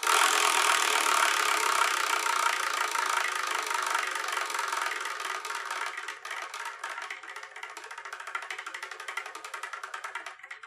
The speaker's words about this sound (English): we're going to spin the wheel